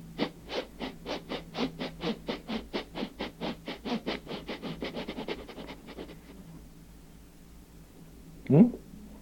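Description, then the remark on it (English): A human voice imitates a chugging train with rapid, steady breathy chuffs that gradually soften and fade, then closes with a brief, sharp vocal whoop like a train whistle. “Sounds like a train.”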